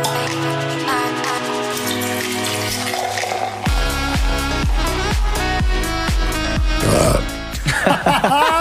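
A long, drawn-out burp rumbles over a musical jingle, which soon breaks into a steady, bass-heavy beat. Both are loud, with no talking.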